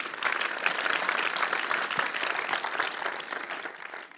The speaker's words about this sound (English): Come on, hey, Freunde. Listen, one claps, we all clap. Is that okay? Hey, remember that wenn one? Einer klatscht, klatschen alle.